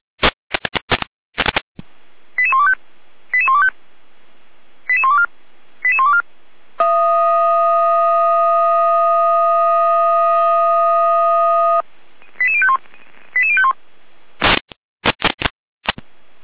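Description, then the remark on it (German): Fire brigade radio alerting from Gera: static bursts open a string of short, bright beeping tone groups, then one steady high tone holds for about five seconds before more beep groups and crackling bursts. No voices. “Gera mit Alarmierung.”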